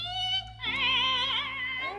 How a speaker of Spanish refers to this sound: otra vez el joven volvió a batir el aldabón. Otra vez la respuesta del chirrido del letrero.